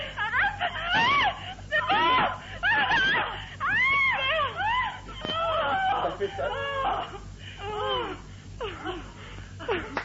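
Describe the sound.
Two women, asked to act out climaxing together, let out loud, exaggerated moans and shrieks of faked sexual ecstasy at the same time, their swooping high-pitched cries overlapping almost without pause, intense throughout.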